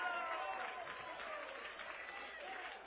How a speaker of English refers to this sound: Fans are already cheering.